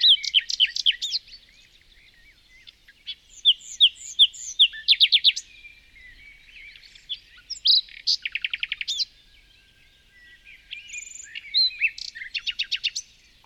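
A small bird chirps and trills in repeated quick bursts, with rapid rhythmic runs of high notes separated by short pauses, clear against a quiet background.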